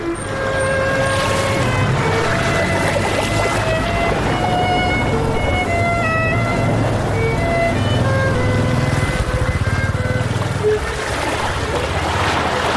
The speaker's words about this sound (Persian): اینجا شهر ساحلی ونکوور، بندر ونکوور.